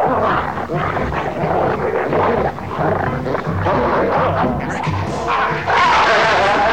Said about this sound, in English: The dogs lunge at Charlie. Eric listens with sweat beating his brow. At the sounds of Charlie's struggles and the dog's snarls, he clenches his fist in triumph.